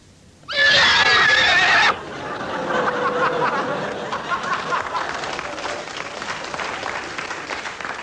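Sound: horse neighing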